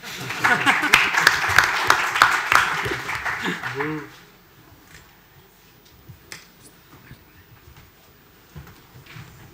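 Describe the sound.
An audience bursts into dense applause, many hands clapping together for about four seconds before it cuts off abruptly, leaving quiet with a faint voice.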